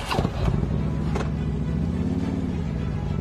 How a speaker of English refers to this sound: And there he is firing up his motorcycle and fading into the distance.